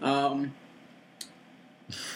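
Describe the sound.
A short voiced sound at the start, a faint click, then a single harsh, breathy cough burst near the end, moderately loud against a quiet background.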